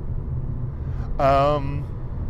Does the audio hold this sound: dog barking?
no